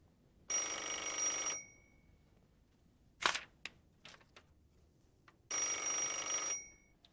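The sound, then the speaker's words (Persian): A telephone bell rings in two long bursts separated by a pause, with a few sharp clicks and knocks in between; loud, no talking. “این تلفن رو جواب بده دیگه.”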